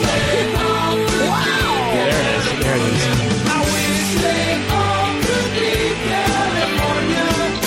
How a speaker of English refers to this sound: Here comes the scream. Woo!